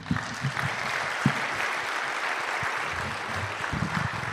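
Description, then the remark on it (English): An audience claps steadily, a dense wash of applause that holds at an even level for several seconds, with a few sharper individual claps standing out, applauding the speakers after a timed discussion. “Let's give them applause.”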